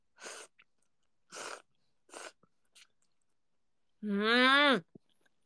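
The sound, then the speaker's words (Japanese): Three quick, breathy slurps of boiled soba noodles, with short pauses between and a faint fourth, followed by a brief drawn-out vocal sound. “スピーカーでそばすする音聞いてみんな、なんかいい年末だな。”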